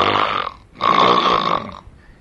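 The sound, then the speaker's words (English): A voice imitates a furious pig, the pig's head of Dorje Palmo (Vajrayogini), letting out two loud, harsh, nasal grunting oinks, the second longer than the first, with no other talking. “Oinking furiously.”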